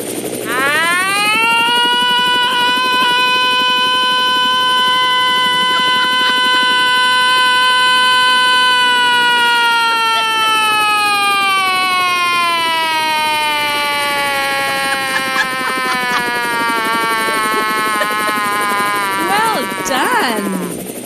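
A helicopter and siren sound effect: a loud, steady siren wails, rising at the start and then slowly sliding down in pitch over about twenty seconds, with a rapid helicopter throb running underneath.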